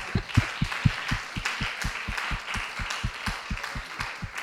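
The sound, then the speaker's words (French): An audience applauds members who have walked with the Lord for 40 years or more, with steady, rhythmic clapping, roughly four claps per second, over a constant wash of scattered handclaps; no one speaks. “Alors, il faut qu'on les applaudisse.”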